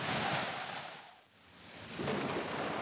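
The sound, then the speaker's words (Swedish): Heavy rain pours down in a dense, steady roar during a thunderstorm, easing briefly in the middle before surging back to full strength. No voices. “Vilket åskväder! Regnet står som spön i backen.”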